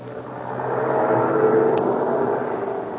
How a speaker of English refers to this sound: An army truck is backing up to the schooner Spindrift, tied up at the dock at the town of Zamboanga in Mindanao.